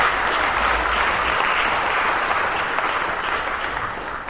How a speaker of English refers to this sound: Thanks very much. So can you please give another round of applause for our entertainers